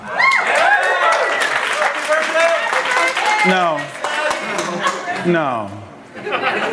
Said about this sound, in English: No, don't clap. You'll encourage it, right?